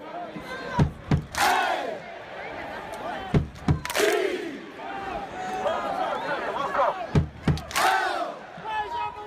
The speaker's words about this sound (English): This summer, thousands of fans raised their hands at Bobby Dodd Stadium, clapping in unison and chanting three letters, ATL.